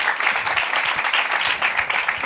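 An audience applauds steadily to show they know a song, many hands clapping in a dense, continuous patter that stays loud and even throughout, with no voices standing out.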